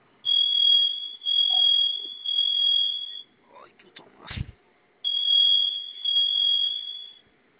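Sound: alarm beeping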